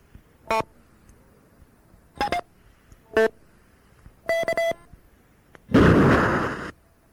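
A sequence of short electronic courtesy tones from a repeater controller: single beeps, a quick double, then a rapid beeping pattern, ending in a loud burst of static hiss lasting about a second.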